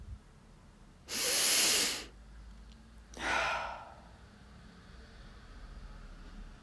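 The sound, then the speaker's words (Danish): A slow, deep breath drawn in loudly, followed after a short pause by a softer, airy exhale, alone against a quiet background with no talking. “Start med at tage nogle dybe vejrtrækninger.”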